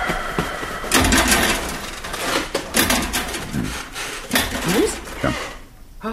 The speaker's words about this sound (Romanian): Iar a scârțit ceva. Da, cred că sunt arcurile de la pat.